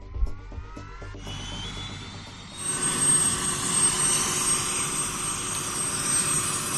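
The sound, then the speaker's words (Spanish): A firefighting helicopter starts its engines: a rising turbine whine swells into a loud, deafening, steady roar with rapidly spinning rotor blades and a high whistle, with no voices. “se ponen de rodillas frente al helicóptero que arranca motores”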